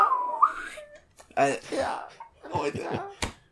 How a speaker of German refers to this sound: Wir haben hier immer diese Zirkus-Pfeif-Geräusche, wenn irgendwer an die Wand geschmissen wird.